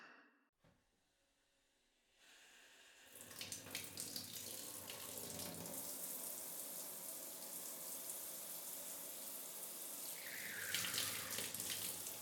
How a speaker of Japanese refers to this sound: 寒くない？大丈夫？お湯かけてあげるね。